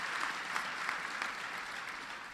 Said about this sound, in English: I brought along somebody who is proving to be one of the finest secretaries of transportation in our history. Ray LaHood is in the house. Give Ray a big round of applause.